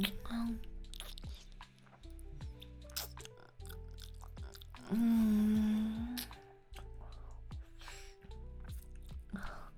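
Wet chewing and smacking of someone eating ice cream, with squishy mouth sounds and a drawn-out contented hum in the middle.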